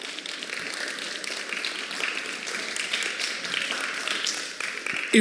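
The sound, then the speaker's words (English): An audience claps steadily, a dense, even patter of many hands that holds at a moderate level for about five seconds before a brief louder burst right at the end. “Come on, clap for them.”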